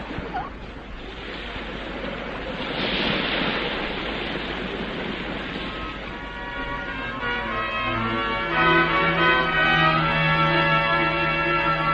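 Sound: crashing ocean waves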